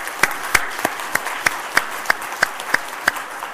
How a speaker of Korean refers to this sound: 우리 한번 박수하겠습니다.